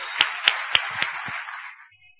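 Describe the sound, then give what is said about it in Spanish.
A short burst of applause, a dense patter of clapping with four or five sharper claps standing out, tapering off and fading to quiet after about two seconds. No one speaks. “Denos fuerte aplauso a la auspicio, muchachos, porque está en el mejor grupo.”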